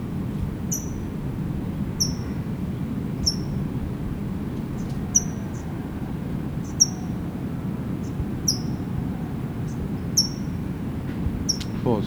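bird, towhee chip calls

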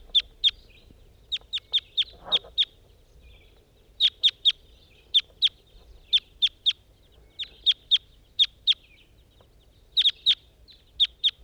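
bird, two wild birds calling

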